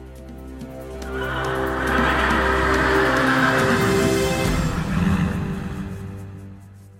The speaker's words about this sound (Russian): Кеша искал Кришну, чтобы сразиться с ним, и потому, когда Господь вышел к нему и приказал подойти поближе, Кеша в ответ зарычал, словно лев.